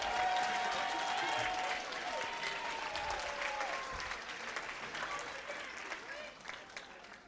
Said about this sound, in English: Okay, we got everything. Come on, let's give the actors one more round of applause.